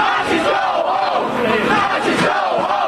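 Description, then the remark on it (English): A crowd of protesters in Charlottesville shouts and yells together in a loud, continuous roar, chasing a spokesman off at a news conference as police in riot gear move to cut them off; many voices overlap with rising and falling cries, an angry chorus drowning out any single speaker. “Police in riot gear moved to cut off the crowd as the protesters essentially chased the spokesman off.”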